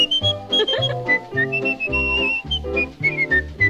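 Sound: human whistling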